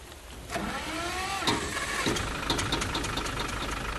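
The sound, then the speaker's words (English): Mr. Patterson's old, plain motor car idles in the rain with a steady rumble, briefly whining upward near the start, with scattered clicks and rattles over the continuous drone and no voices. “This is Mr. Patterson's motor car. Not a very fancy automobile.”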